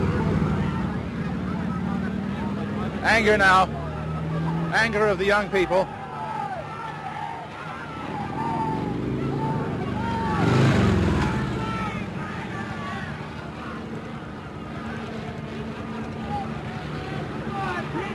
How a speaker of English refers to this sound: Traffic has stopped. And here come the police. 1, 2, 3, 4 police on motor scooters.